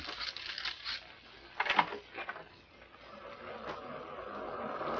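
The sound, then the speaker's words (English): A steady wash of ocean surf rolls in, swelling and easing, heard through glass doors opened onto the view, with a brief clatter near the start and no voices. “The surf sounds ominous.”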